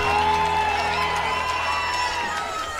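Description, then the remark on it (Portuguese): A large concert audience screams and cheers for a singer, a dense, loud wall of high-pitched shrieks and whoops that stays steady throughout, with no individual talking standing out. “Agora pode gritar.”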